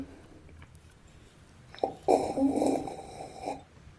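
slurping beer

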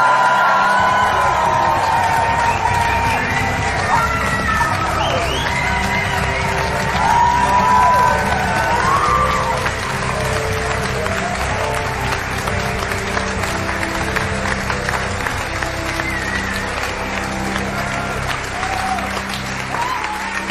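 audience applause and cheering

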